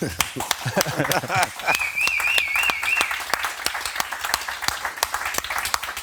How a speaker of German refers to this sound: Super. Applaus.